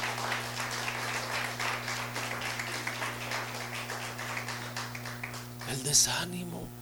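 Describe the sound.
An audience claps steadily for several seconds, a dense, even patter of many hands over a low constant hum, before the applause fades and a voice starts talking.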